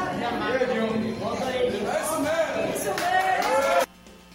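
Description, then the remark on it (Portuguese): A crowd of people shouting together in protest, a dense wash of raised, overlapping voices with rising and falling pitch, sustained for about four seconds before cutting off abruptly. “Vocês estão ouvindo aí, né? Como até o médico, povo lá gritando.”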